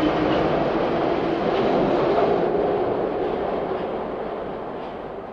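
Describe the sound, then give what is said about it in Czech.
A Prague metro train, the first on the line's opening day, departs from Kačerov station and rumbles steadily through a tunnel, a dense, continuous roar of wheels and motor that holds loud before easing slightly toward the end. “Provoz pražské metru je zahájen.”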